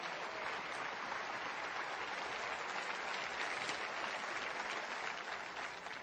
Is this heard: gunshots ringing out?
no